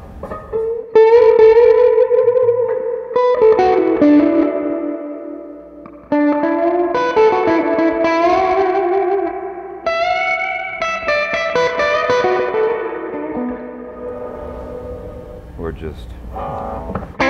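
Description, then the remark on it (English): An electric guitar plays a melodic run of sustained single notes and chords through a tube reverb unit, bathed in a splashy reverb that lets each note ring and trail off, fairly loud throughout. “And looks like that reverb unit sitting on top.”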